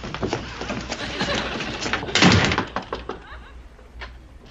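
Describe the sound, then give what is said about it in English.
A door shuts with one solid thump midway through as people leave, preceded and followed by soft shuffling and handling noises at moderate volume. “And we'll lock the door right behind you.”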